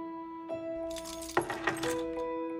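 A bunch of car keys drops onto a coffee table with a sharp clatter and a brief metallic jangle, against a steady low tonal hum in the background.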